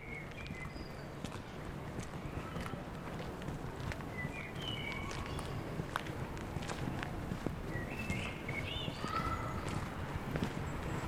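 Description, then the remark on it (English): Steady footsteps walking at an even pace, a run of soft rhythmic thuds over a constant low background rumble, with brief high chirping sounds scattered throughout. “Open your eyes and follow the sounds of my steps.”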